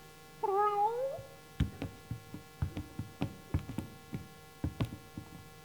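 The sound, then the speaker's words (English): A single drawn-out cat meow rises and falls near the start, from cats kept in a separate cage away from white mice, followed by a string of irregular sharp clicks and knocks, like rattling inside the cage. No one speaks. “Well, I had to keep them over here in a separate cage, away from the white mice. They were pretty upset. Cats do that to mice, as a rule.”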